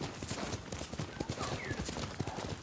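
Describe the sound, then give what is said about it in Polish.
The hooves of a horse named Nobu clip-clop in a brisk, steady rhythm of sharp knocking beats, continuing throughout over a constant background hiss. “Chodź koniku, gdzie jesteś?”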